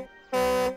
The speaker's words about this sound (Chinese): 狗爷爷展示的是他的拖车。 我的拖车发出的声音是这样的。